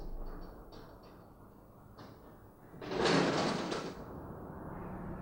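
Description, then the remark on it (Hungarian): A large four-leaf aluminium garage-style door, originally designed for fire station garages and adapted for private homes, rumbles as it moves, with a loud, broad mechanical surge in the middle and a steady hum before and after, heard alone without voices. “Az ajtó könnyen kezelhető, tökéletesen zár, hő- és hangszigetelést biztosít.”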